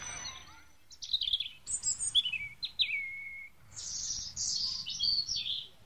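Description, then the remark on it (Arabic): Caged sparrows chirp and twitter in quick, overlapping bursts of high, bright notes, steady throughout, with no one speaking. “وبعد ذلك جلس الأستاذ حاتم مع طلابه بالقرب من أقفاص العصافير، وأخذوا يتجاذبون أطراف الحديد.”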